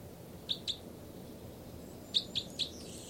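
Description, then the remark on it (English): Two birds, numbered 305 and 306, call and chitter in two bursts: a pair of short, high chirps, a pause, then three more quick chirps, crisp over a faint steady hiss with no talking. “I think both birds.”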